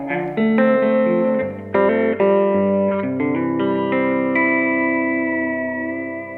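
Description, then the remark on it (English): An electric guitar with its tone knob in the out-of-phase setting plays a run of sustained, overdriven notes with a thin, nasal, out-of-phase tone, its filtered character shifting like a wah sweep. Steady, with no voices. “And this is the position I use it most on, just okay, because this is like a wah pedal, basically, and you can get all the tones you need from it, really.”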